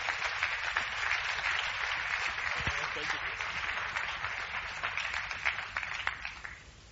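Sustained audience applause, a dense wash of many hands clapping at a steady loudness for several seconds before thinning out toward the end.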